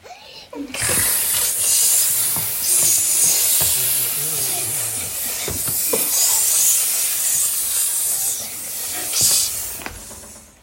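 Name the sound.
snake hissing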